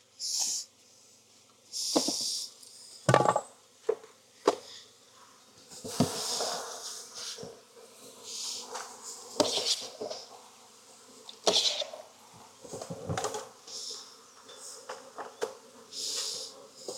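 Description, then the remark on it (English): Steady buzzing of many honeybees as bees are shaken from a hive frame and measured out by the cup, a dense droning hum broken by sharp rustling knocks and shuffling bursts, with no voices. “So if you got enough bees, 1.5 cups is good.”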